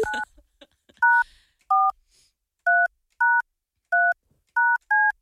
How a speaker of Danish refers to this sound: Jeg håber, det er det rigtige nummer, jeg har tastet ind. Nu bliver jeg lidt i tvivl, og jeg står der på skærmen.